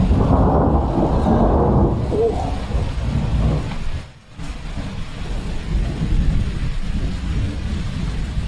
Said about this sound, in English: I think it'd be nice to end this show with just a little sound effects of real California rain.